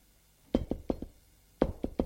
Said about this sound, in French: On a frappé à la porte.